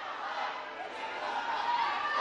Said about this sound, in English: Now the crowd is heckling.